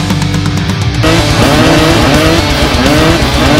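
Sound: motorcycle engines revving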